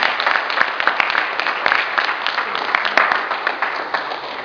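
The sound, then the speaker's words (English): An audience at a town hall meeting breaks into steady applause for Reverend Humphreys, many hands clapping in a dense, crackling wash that holds at an even level for several seconds with no voices over it. “Can we give Reverend Humphreys a big round of applause?”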